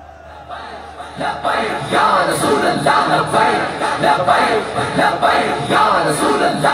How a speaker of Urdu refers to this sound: بھائی میں نعرے تو لگنے ہیں